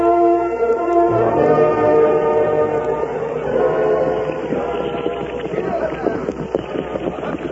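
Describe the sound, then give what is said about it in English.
A horse-drawn wagon train rolls steadily along toward Needle Pass, with a continuous rumbling, creaking drone that gives way to rhythmic clattering toward the end, moderately loud. “I reckon we're moving right along with this here wagon train.”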